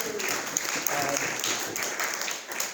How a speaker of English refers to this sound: So the first home group I want to thank is Tuesday Orchid. I love you guys. So a round of applause for Tuesday Orchid.